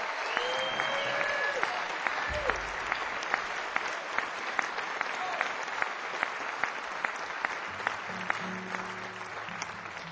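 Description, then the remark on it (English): A crowd applauds steadily for about ten seconds after the band's bass player Byron House is introduced, dense clapping with a few sharper claps standing out, a faint murmur of voices underneath. “Hold your applause, please, for both.”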